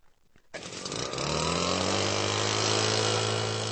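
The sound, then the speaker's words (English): A man fires up his small gas leaf blower to get back to work: the engine catches after a brief quiet moment, then revs up into a loud, steady high-pitched whine and roar that holds to the end. “And with that, he fires up his leaf blower and gets back to work.”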